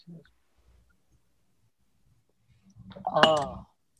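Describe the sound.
After a long quiet stretch, coffee cups clink together once in a morning toast, a short, bright knock with a brief ringing tail, overlapping a voiced murmur.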